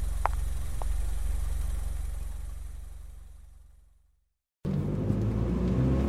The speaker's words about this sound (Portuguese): arranca o carro e circunda a Praça dos Heróis para sair da vila.